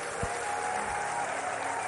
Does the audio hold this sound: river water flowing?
no